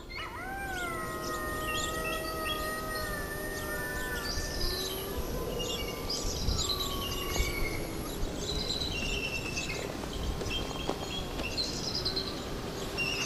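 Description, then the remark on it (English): A recorded wolf howl played from a phone to try to get a response from wolves: one long wavering tone that swoops upward and then holds steady for several seconds before fading, with constant wind noise and scattered bird chirps underneath. “I have, and I don't think it's nearly loud enough with the wind blowing right now, but I have a recording on my phone that I'm going to play and see if we can get a response here.”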